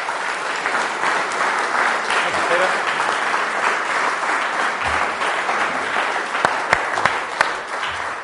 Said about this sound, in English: I think the warm applause says it all.